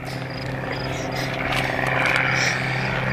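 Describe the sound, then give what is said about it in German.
An airplane flying in low circles at night over the Gruselheide, its engine droning steadily, a deep humming tone with a buzzing edge that swells a little louder in the second half and holds without a break. “Da, tatsächlich, ein Flugzeug. Es sieht sehr niedrige Kreise.”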